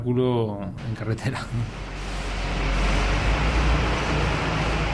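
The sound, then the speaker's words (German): A heavy-load truck's engine rumbles steadily as the truck is made ready to depart, a broad, continuous low roar that grows slightly louder, after a brief voice at the very start. “Ein LKW wird gerade startklar gemacht.”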